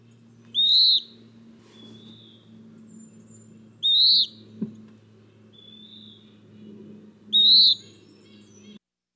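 A western wood pewee, a flycatcher, calls three times, a clear, burry descending note repeated every few seconds, loud against a steady low hum.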